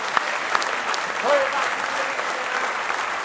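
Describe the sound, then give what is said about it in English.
An audience breaks into loud, sustained hand clapping in praise of the Lord, a dense wash of many hands applauding steadily with a few scattered voices calling out underneath. “Give him a real good hand clap of praise.”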